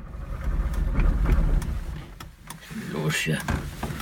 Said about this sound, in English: At first, we couldn't get his old East German car to start. But then, finally, the motor started running.